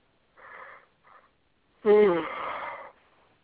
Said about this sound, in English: You could pull your fucking mouth away from the phone when you yawn on your own show, cocksucker. Seriously, hit mute.